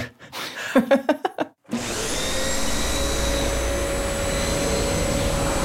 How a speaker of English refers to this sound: It seems like our sound designer seems to think we're riding our vacuum cleaners there.